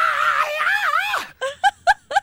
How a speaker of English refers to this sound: Here's a sample. Here's another. Here is some of his patented screaming.